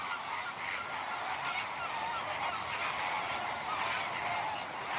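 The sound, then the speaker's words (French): A dense flock of flamingos in their courtship display honks continuously in a loud, goose-like chorus, the overlapping nasal calls forming a steady clamor with no pauses and no voices. “Le mieux, c'est quand les flamants roses font leur parade nuptiale, c'est-à-dire quand ils cherchent une amoureuse pour faire des bébés.”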